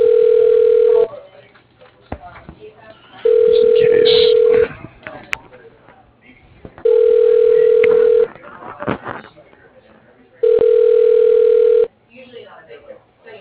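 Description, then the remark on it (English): A telephone ringback tone heard through a headset repeats four times in steady, evenly spaced bursts of about a second each, with a single steady pitch, while people talk quietly between and beneath the rings. “They're still ringing after the computer. In the headset.”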